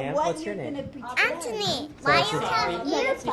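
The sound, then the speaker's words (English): A lively mix of young children's high-pitched voices chattering, calling out and babbling over one another, with the busy sound of kids playing together at a family-run daycare in Lee that cares for around 70 children, from infants to kindergartners. “This is Live and Learn, a family-run daycare in Lee that's been around for 4 decades.”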